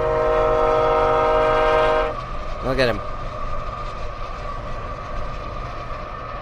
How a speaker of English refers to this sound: I'm going to turn up the sound here. That's a Burlington Northern train. Just so people listen to that.